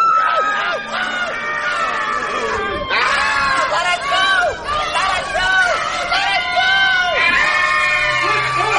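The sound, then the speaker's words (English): A group of children screaming and shrieking continuously, loud, with overlapping high-pitched cries and yells filling the whole stretch without pause. “They just wouldn't stop screaming.”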